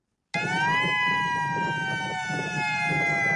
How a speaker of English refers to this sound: Starting in December, Hawaii will be testing its attack warning siren for the first time since the Cold War in the 1980s. The state is adding the signal to its monthly attention alert test, which warns people of an incoming tsunami or hurricane.